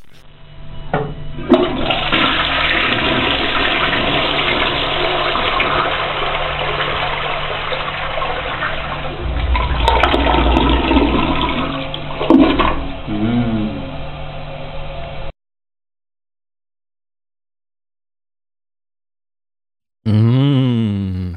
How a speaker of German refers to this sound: Hallo, ich bin noch unter der Dusche, aber die Hintergrundgeräusche werden weggemacht.